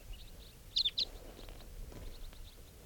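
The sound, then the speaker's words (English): A flock of about 10 crossbills flies overhead and calls: two sharp, high chirps stand out clearly, followed by several fainter scattered call notes over a low, steady background rumble. “So according, the birds are flying around. They may be coming back here.”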